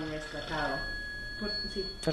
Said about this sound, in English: And with that, her phone rings, ending our interview.